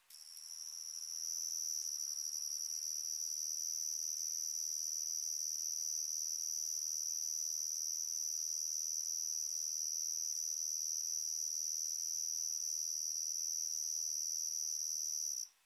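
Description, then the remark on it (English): A lone cricket trills steadily for about fifteen seconds, a thin, high-pitched, unbroken chirping that stays fairly quiet against an otherwise silent background, with no voices present. “Yes, there, the cricket.”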